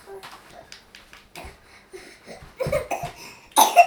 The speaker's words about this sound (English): Oh, cough, cough.